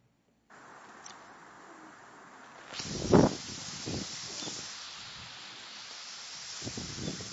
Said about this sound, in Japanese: どんどん波が入ってきてですね、この川の上流に向けてですね、波がこう何回もこう押し寄せてくる様子なんですけども、これはベランダから息子が撮ったんですけども